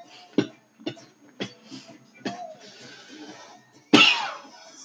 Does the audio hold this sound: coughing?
yes